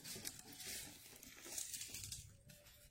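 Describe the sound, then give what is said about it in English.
Sheets of paper being moved, shuffled and rustled, a steady crinkling and crackling that lasts about three seconds at moderate volume, with no talking over it. “I got to move my paper, y'all.”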